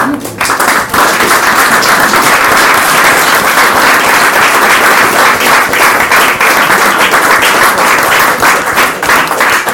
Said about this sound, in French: Alors, je pense qu'on voulait d'abord l'applaudir.